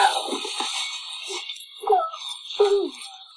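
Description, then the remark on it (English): Small puppies whimper and whine in a few short, high-pitched bursts, each rising and falling, over a steady faint hiss with no one talking. “So let's meet some of the puppies.”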